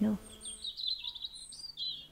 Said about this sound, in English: And it's such a beautiful location. But listen to the birds. There's nobody living nearby.